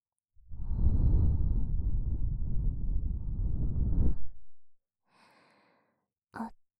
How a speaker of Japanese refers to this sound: 熱い吐息を流し込まれて